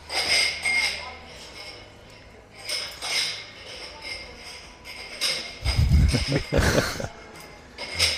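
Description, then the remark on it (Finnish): Cutlery and glasses clink and clatter repeatedly, with a louder burst of rattling near the end. A low murmur of voices runs underneath. “Mietiskelin hetken, kun aterimet on paha juttu. Mä luulen, että lasit kuuluu niin myös.”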